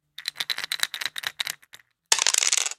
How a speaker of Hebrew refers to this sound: כשאני זורק שתי קוביות ששבש למשל, התוצאה נדמת לי כאקראית רק מכיוון שאני לא מסוגל לחשב בדיוק מספיק גבוה את כל הכוחות שפועלים על כל הקוביות כשהן פוגעות בלוח המשחק ונתזות ממנו לכאן ולכאן.